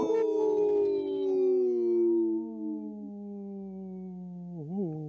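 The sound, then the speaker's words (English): A single long wolf howl, steady and fairly loud, slowly sliding downward in pitch over several seconds before wavering briefly at the end. No other sounds accompany it. “supported by Howling for Wolves, protecting wolves for future generations. Howl! Howl.”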